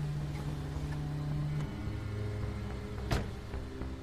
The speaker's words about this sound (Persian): شب حامد و نازلی با ماشین حامد اومدن کنار خونه ی واعظ.